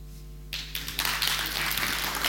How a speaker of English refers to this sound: It says in my notes, pause for applause.